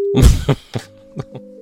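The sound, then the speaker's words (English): A loud clatter of a phone handset being hung up as the other party ends the call, followed by a steady electronic telephone tone that hums on beneath a few soft knocks. “She called me stupid and just hung up.”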